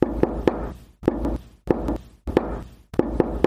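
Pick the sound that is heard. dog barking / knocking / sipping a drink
knocking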